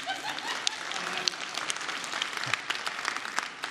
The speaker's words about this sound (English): All the people clapping are people who don't have children.